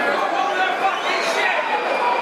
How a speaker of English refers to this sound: As you can hear, that's the crowd's verdict on the first 9 minutes of proceedings.